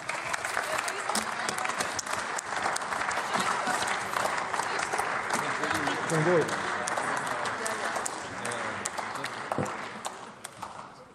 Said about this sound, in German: Die nächste Rednerin in dieser Debatte ist Dunja Kreiser, SPD-Fraktion. Applaus